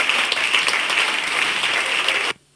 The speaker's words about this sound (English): I wonder how loud that little crowd clap is.